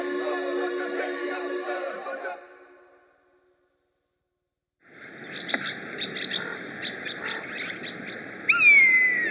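common buzzard call

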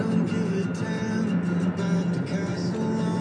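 car interior noise

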